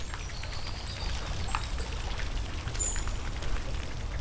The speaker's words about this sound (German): Ein Springbrunnen plätschert beruhigend vor sich hin.